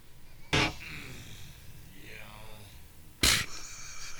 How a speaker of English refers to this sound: That's how I sneeze at my cubicle.